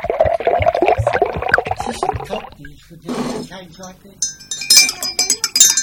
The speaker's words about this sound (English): I'll make some more coffee.